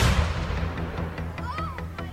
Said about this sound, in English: No, the cannons roar. The cannons roar. The cannons roar. Hark, I hear the cannons roar.